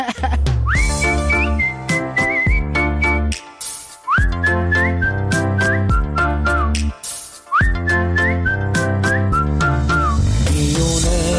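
A bright whistled melody rides over a full backing track with steady drums, repeating the same rising, sliding phrase three times in a clear, prominent tune.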